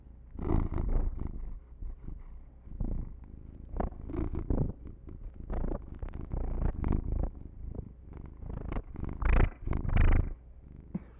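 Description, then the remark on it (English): A male domestic cat purrs steadily in a living room, a low rumbling rhythm of repeated breathy pulses, fairly loud with some fluctuation and occasional rustling, no voices present. “I want to see if I can try to pick up his purr.”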